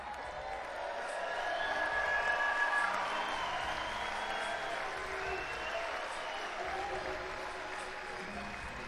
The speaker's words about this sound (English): When I come in tonight, you stand up and you yell for me. And the noises you make me feel so good.